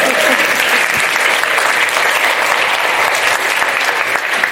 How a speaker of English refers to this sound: You can clap for that.